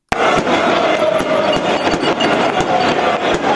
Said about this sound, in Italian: Fuochi d'artificio a mezzanotte, una festa che dagli spalti del Meazza si allarga alle strade di Milano e infine a Piazza Duomo.